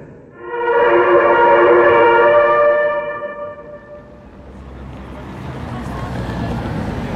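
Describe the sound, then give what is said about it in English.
Buglers sound the opening of the Last Post after traffic on the road has been stopped: a loud, steady brass note held for about three seconds, then fading into a low, rumbling background noise. “The two policemen are moving out into the road, and the buglers will shortly be ready. The traffic has stopped in about 15 seconds from now. You will hear the beginning of the last post.”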